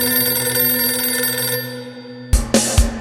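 A telephone bell rings loudly in one sustained, bright metallic peal. It cuts off near the end, followed by a few sharp knocks or clatters, with no voices.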